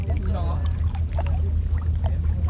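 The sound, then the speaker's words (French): A boat's steady low engine drone runs throughout on a calm, misty sea, with faint splashy water noise on top and brief, indistinct voices in the background. “Bon, la mer est calme en tout cas.”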